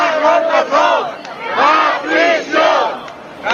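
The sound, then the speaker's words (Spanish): A large crowd chants in unison at a protest in Valencia, Spain, one month after the DANA flood, loud voices rising and falling in a steady repeated rhythm of shouted phrases, with the massed roar continuing between each call. “Ha habido manifestaciones.”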